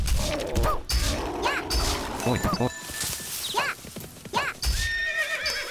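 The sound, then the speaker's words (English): Horses whinny several times in shrill, wavering bursts while hooves clip-clop steadily underneath, with thuds and clatter in a busy scene as another horse comes along. “Here comes another horse.”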